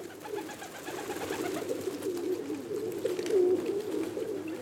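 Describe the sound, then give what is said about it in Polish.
Low, throaty cooing of a rock pigeon (city pigeon) rolls on steadily, a soft burbling murmur with a slightly louder swell near the middle, no voices present. “Znów, gdy mówimy o tym gatunku, zapewne mamy na myśli gołębia miejskiego, inaczej skalnego.”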